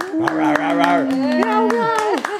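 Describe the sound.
Steady hand claps ring out in a quick, even rhythm while a sustained voice-like tone slides up and down over them, the whole burst loud and lively for a couple of seconds.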